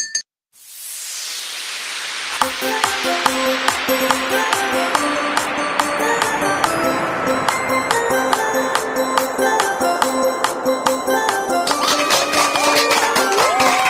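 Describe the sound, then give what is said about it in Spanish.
After a brief noisy swell, dense crowd applause breaks out and keeps going steadily, a loud crackling wash of many clapping hands with steady musical tones humming underneath. “Esos aplausos y aquí tu bebida favorita.”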